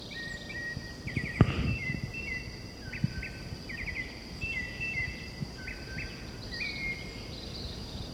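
A white-chinned thrush sings a series of short, clear whistled phrases repeated at a steady pace, over a constant high insect buzz and some low rumbling background noise.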